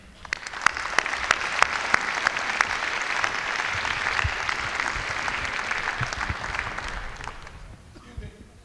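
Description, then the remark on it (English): An audience at a showcase breaks into sustained applause for the Augusta Heritage Center, a dense crackle of many hands clapping that holds steady for several seconds before thinning out and fading away. “So I think Augusta Heritage Center deserves a hand, too.”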